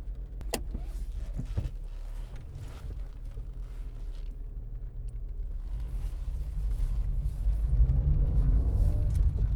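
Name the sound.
inside a moving car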